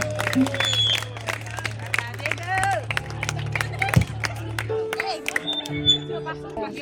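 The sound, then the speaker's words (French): An audience at an urban gospel artist's performance bursts into sustained applause for themselves, a dense crackle of many hands clapping at a steady loud level, with a low musical drone and scattered voices underneath. “Est-ce que vous pouvez applaudir même pour vous-même?”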